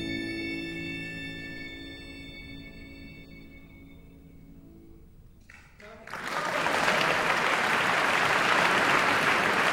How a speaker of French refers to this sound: Le public du Festival international de musique de chambre de Jérusalem applaudissait cette romance de Joseph Elmsberger pour quatre violons et piano avec Elena Bashkirova au piano. C'était en 2009.